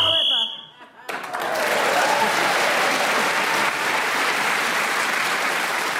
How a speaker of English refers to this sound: That round of applause when she said, I'm getting near to him. And then they all clap.